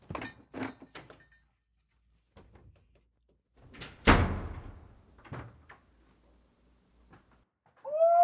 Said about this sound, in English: Hey! Gotta shut the door.